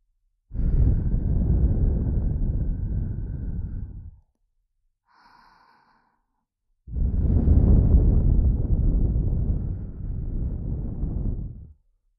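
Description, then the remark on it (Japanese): Two long breaths blown straight onto the microphone to tickle the listener, each a loud, rumbling rush of air lasting a few seconds, separated by a short quiet gap with a faint airy hiss. “不安なこと、怖いこと、全部全部忘れてしまえるように、私の手と吐息を用いてくすぐっちゃいます。”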